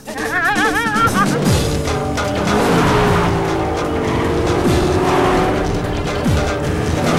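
Loud car engines roar at speed throughout, with sharp tire squeals early on and pitch sweeps as vehicles race past, as one car turns, speeds forward and drives alongside another in a chase.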